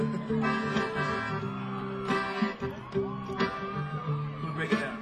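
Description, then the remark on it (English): A live concert crowd, including people out on the grass and in the front, yells and whoops over a sustained wash of voices, with several louder shouted bursts breaking through at intervals, the cheering filling the space. “I just wanted to get you to yell.”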